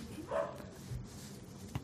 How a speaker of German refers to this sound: Ich hasse diesen Drecksköter, der bellt immer, wenn ich einen Podcast aufnehme.